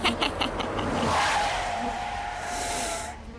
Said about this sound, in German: Scheißvieh. Beifahrer Nummer 4, die hundsgemeine Fieslingfliege.